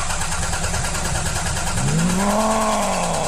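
A car engine idles roughly, then revs up with a strained, rising whine partway through, sounding rattly and badly in need of repair. Loud, no talking.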